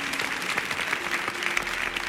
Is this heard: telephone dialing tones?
no